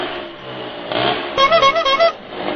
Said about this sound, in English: It's more of a scooter. A stutut. It's stutut. Loud pipes and fast bikes.